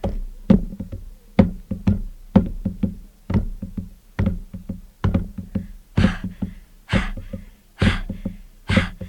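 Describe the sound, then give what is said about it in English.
Steady, rapid slaps and thuds repeat in a bouncing rhythm as a person jumps rope, the rope smacking the floor with feet landing, punctuated near the end by a few breathy puffs. “Now what are you doing? I'm jump roping.”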